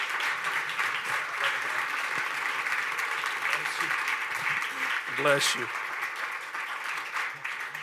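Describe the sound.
An audience at a Summit gathering applauds steadily to welcome a guest prophet from Texas, a dense wash of clapping that holds for several seconds, with a brief spoken phrase and a cheer rising over it partway through.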